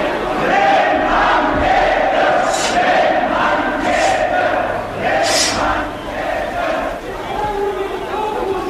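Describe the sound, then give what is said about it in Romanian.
An angry crowd of dockworkers shouting together, "Down with the trust", a dense, continuous roar of many voices with louder yells rising above it every second or so, steady and loud throughout. “E furia docurilor, gloata celor mici. Ia urlă, jos cu trustul.”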